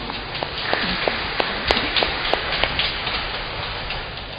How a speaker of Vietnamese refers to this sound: Các vị đã làm rất tốt đẹp. Chúng ta cảm ơn ban điều hành giáo họ một tràng vỗ tay.